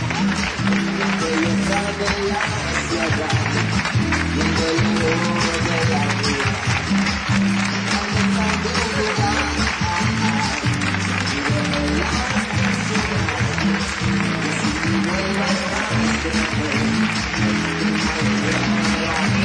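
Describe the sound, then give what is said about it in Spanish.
A large crowd claps steadily and loudly for the whole stretch, welcoming mayor and municipal election candidate Willy García de Longoria at a campaign event in Huelva, a dense continuous wash of applause with murmuring voices and cheers mixed underneath. “Con el aplauso de la multitud de personas que arropan al candidato.”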